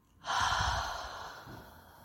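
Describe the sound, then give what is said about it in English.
A single deep, breathy exhale from a person taking a deep breath in and out starts abruptly and fades slowly over about two seconds, airy like a long sigh, with a faint soft breath following near the end. “Just take a deep breath in the rhythm of how I stroke your thighs. In, out.”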